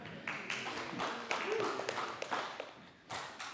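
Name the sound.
audience clapping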